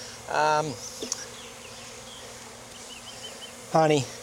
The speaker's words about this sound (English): Nectar, honey, uncapped, but this is a honey super for them right now. So just gonna set that to the side. There's a lot of bees in here.